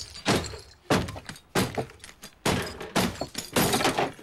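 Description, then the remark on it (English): A series of about seven heavy, uneven blows as the edge of a chopping board smashes small glass medicine vials in a kitchen sink, each hit a sharp thunk with bright crunching and shattering, no voices. “Picking up a chopping board, he uses the edge to smash the files.”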